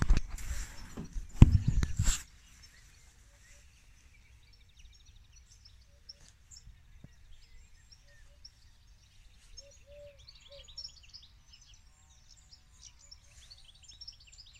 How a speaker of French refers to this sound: Mais on écoute les oiseaux déjà.